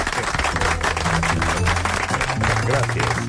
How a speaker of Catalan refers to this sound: és que això mereix doble aplaudiment.